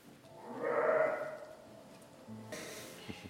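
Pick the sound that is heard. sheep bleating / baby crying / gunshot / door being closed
sheep bleating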